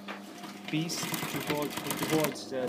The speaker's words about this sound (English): It's an Adler, one of our favorite manufacturers of heavy-duty leather sewing machines. It's an Adler 6772. I always forget the serial. 6772.